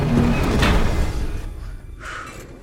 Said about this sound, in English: They race towards a circular elevator. In the elevator, they press a keypad and the doors slide shut.